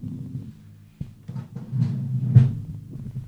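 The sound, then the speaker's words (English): A drawer is pushed shut with a low rumbling slide and a few dull knocks and thumps, the loudest near the end. No one speaks. “I had to close a drawer because I, you know, have problems.”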